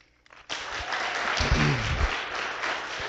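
A church audience bursts into steady applause for two men whose birthdays were on Friday and Saturday, many hands clapping in a dense, continuous patter that holds strong for several seconds, with a few voices briefly rising underneath.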